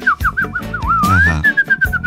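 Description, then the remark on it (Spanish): A person whistles a bird-like melody that sounds like a little bird but is a Mexican insult: quick chirping warbles, then a long rising glide settling into a steady high note with a few short trills, over a low rhythmic rumble. “Y tú dices, ah, el pajarito.”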